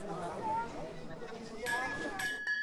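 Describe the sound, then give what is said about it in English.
A village blacksmith in the Aude region strikes his anvil with a hammer three times, sharp metallic clangs leaving a steady high ringing tone like bells, after a stretch of murmuring voices. “Those aren't bells you hear. That's Mark, the blacksmith. He strikes his anvil like a sexton”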